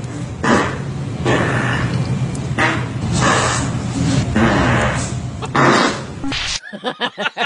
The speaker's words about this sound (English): And he documented it every day for 6 months. He had a new fart to offer.